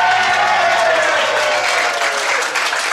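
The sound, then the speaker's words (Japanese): A crowd breaks into sustained applause, dense clapping filling the whole stretch at a steady, fairly loud level with no voices standing out. “いや、そんな拍手してもらうことないです。”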